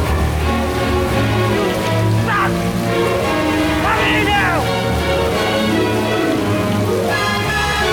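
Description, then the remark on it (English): Steady rain pours down in a continuous hiss at a play park, fairly loud, with sustained musical tones and swelling sweeps layered over it throughout. “He marches in the rain to the play park opposite the house.”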